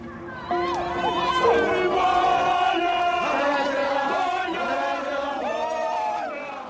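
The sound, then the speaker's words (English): Hundreds of people chant together at Operation Dudula's conference in central Johannesburg, many voices in loud, sustained unison, their melodic phrases rising and falling in a steady rhythm throughout. “Hundreds gathered in central Johannesburg for Operation Dudula's conference. The mood is celebratory.”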